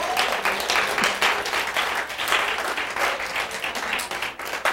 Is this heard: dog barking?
no